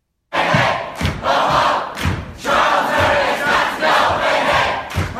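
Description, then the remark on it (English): A loud protest crowd at Middlebury College in Vermont, protesting Charles Murray, roars and shouts continuously, many voices blending into a dense, raucous din with rhythmic surges and a few heavy thumps underneath, no single voice standing out. “Here's a little bit of sound of protest there.”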